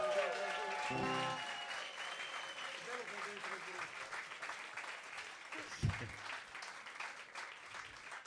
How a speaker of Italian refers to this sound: Sono bravi anche quelli del gruppo. Sono bravi, anche. Ragazzi, fate un applauso.